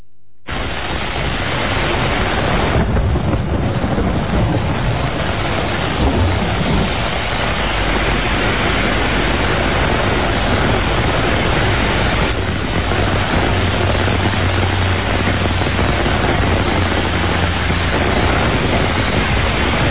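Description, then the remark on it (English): Heavy rain pours down in a dense, unbroken roar for the whole stretch during a storm on the Lewis Road out of Killarney, with a crack and low rumble of thunder breaking through the downpour early on. “And that crack of thunder there, that was one of the milder cracks of thunder. I'd never, ever seen rainfall like it.”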